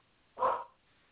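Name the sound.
dog barking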